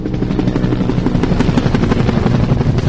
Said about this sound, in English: A water-dropping helicopter, part of a small air force of choppers and air tankers, makes yet another run at the Sherpa brush fire.